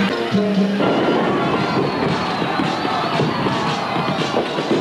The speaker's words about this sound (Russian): Вопрос об игорном бизнесе на Кубе решает Фидель, входящий в Гавану. Снаружи толпы приветствуют кубинскую революцию.